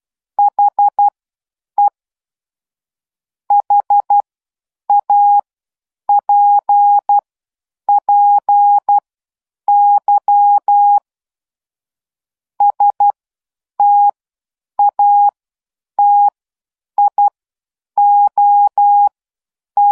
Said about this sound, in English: And that was the Morse code message to enter the lucky draw for the prizes that we will have at the end of the year. And as I've said before, it's not important that you know what Morse code is or what the message says, but the fact that you heard it